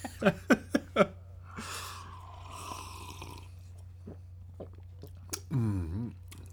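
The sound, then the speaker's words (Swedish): Someone takes a sip of a drink during a tasting: a few small clicks, a soft airy slurp, then a quiet swallow followed by a brief voiced sound of appreciation. No speech. “Nej, men nu tar jag en klunk.”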